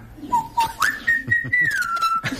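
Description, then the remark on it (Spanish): A listener's pet parrot whistles a short pop tune: a clear whistle that steps up in pitch, holds a long bright note, then slides gently down, with faint rustling noises underneath. “un oyente que dijo tener un loro que cantaba como …”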